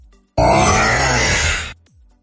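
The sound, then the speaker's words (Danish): A single loud, rough monster growl from a horror film, lasting over a second, harsh and raspy with a deep rumbling undertone, starting abruptly and trailing off, followed by a brief faint rustle. “Det er faktisk fra en gyserfilm.”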